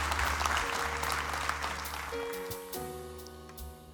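Sustained audience applause, dense clapping that starts loud and gradually thins and softens, with steady musical tones sounding underneath throughout.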